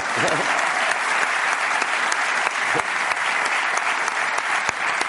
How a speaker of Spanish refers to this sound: Vale, gracias a esa usuaria del metro. Muchas gracias. Un aplauso para ella.